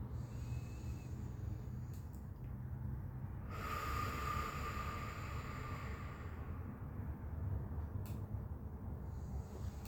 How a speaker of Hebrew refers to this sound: נעשה את זה עוד 4 פעמים. שאיפה מהאף, נשיפה ארוכה ואיטית מהפה. כל שאיפה אנחנו מתמלאות, ועם כל נשיפה אנחנו מרפות עוד קצת מתח. עוד 3 נשימות כאלה.